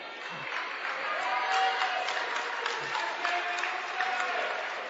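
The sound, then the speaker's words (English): A crowd at a Lady Vikings basketball game applauds steadily for several seconds as player Addison Ainsco comes off the court, a dense wash of clapping from many hands, with faint murmuring voices mixed into the ongoing cheer. “Gets a nice applause coming off.”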